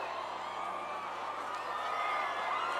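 A concert crowd screams and cheers on the performer's count of "uno, dos, tres, everybody scream", in one dense, sustained roar, holding steady and loud for about three seconds with no single voice standing out.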